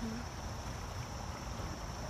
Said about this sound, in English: It's beautiful out here though. It huh? is gorgeous. Oh my God. Listen to that. Hear that water.